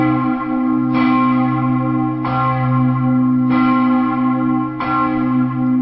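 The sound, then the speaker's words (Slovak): A large church bell tolls four times at a slow, even pace. Each strike blooms into a deep, sustained hum that rings on between hits. The bell had cracked and was professionally welded to ring with its original sound. The sound is loud, with no voices. “Existuje taká metóda zvonoliarského zvárania, dokážu to iba dve firmy v rámci Európy a jedna z nich to robila, dokázala zvon na novo dať do poriadku tak, aby zvonil ako keby svojom pôvodnom zvuku.”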